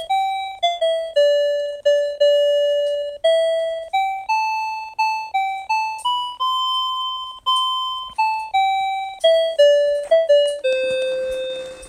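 A cube-shaped talking alarm clock's bright electronic chime plays a short tinkling melody of clear tones, about a dozen notes with a decaying ring, fairly loud, ending on a sustained buzzy note. No one talks.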